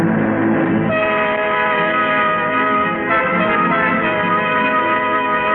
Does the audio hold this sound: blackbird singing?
no